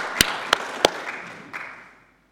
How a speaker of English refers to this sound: Round of applause. Praise the Lord.